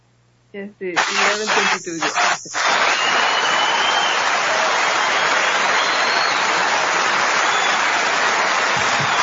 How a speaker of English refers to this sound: Yes, they all learn something. When you're laughing, you're clapping. No, when you're learning, you're clapping. I mean, what the fuck are they? They don't even know what they're clapping for. Wow, it's a long clap.